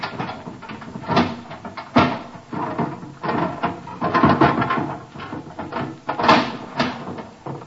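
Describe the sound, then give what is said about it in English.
A locked cupboard is pried open with a pinch bar: repeated wooden creaks, cracks and rattling strains, several sharp loud bursts of splintering and banging spread across the stretch, with no voices. “Open it. It's locked. Open it. There a pinch bar? Here on the wall. That ought to do.”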